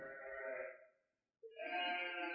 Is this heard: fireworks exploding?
no